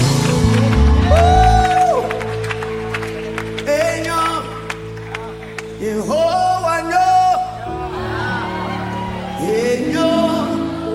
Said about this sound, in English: If you know he's a good God, can you clap and shout to the glory of his name? Hallelujah, hallelujah, hallelujah.